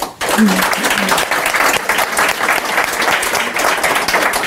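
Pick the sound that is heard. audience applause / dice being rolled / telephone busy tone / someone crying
audience applause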